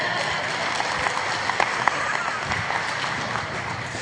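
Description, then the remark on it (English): A church audience claps steadily together as a clap offering for the Lord, a dense, even wash of many hands with a few sharper individual claps popping out, keeping the same loudness for the whole stretch. “Can I have a clap offering for the Lord?”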